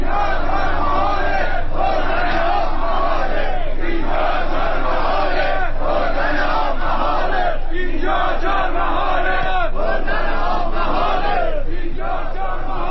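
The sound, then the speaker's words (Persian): A large crowd of street protesters shouts together in loud, rhythmic waves on a Monday, protesting over water shortages. Many voices rise and fall in chant-like bursts that continue without pause throughout. “همه اینها روز دوشنبه نیز مردم را به خیابانها کشاند تا اعتراضشان را فریاد بزنند.”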